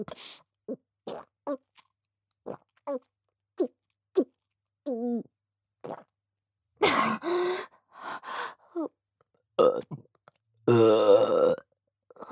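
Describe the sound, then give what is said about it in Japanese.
A string of short breathy gasps and small vocal noises gives way to several loud burps from a person drinking alcohol, the final one long and rumbling. “また出る。ゲップが出ちゃう。”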